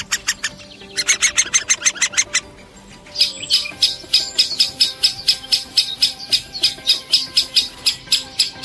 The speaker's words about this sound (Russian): Большой пестрый дятел, голос которого вы сейчас слышите, самый массовый вид дятлов нашего региона.